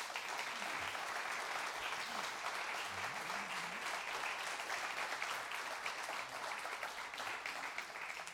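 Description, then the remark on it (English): An audience applauds to welcome a speaker invited up, steadily for about eight seconds, a dense, even wash of many hands clapping at constant loudness, with faint low murmurs of voices underneath. “Let's give him a round of applause and welcome him.”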